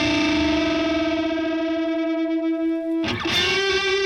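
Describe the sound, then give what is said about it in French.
A distorted electric guitar holds a single sustained note whose pitch creeps slowly upward, then a fresh attack near the end lands slightly higher and wavers with a light vibrato. No voices. “Et puis vous faites vibrer la corde bendée, vous pouvez la faire vibrer, ça fait toujours l'effet.”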